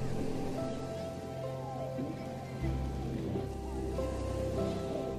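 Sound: ocean waves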